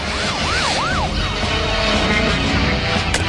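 A police car siren whoops in quick rising-and-falling cycles as officers pursue robbers, then drops in pitch and fades as it passes, over a steady wash of road and engine noise.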